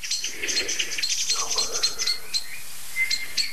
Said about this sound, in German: Das Ganze wird heftiger, weil nämlich eine zweite Vogelart dazu kommt. Die sind leider cleverer als ich, das heißt, die wissen besser, wo die Ursache steckt.